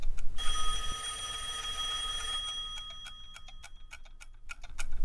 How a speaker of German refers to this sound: Das Ticken der Uhr ist so laut. Der Zeiger springt wie ein Raubtier. Immer weiter. So laut.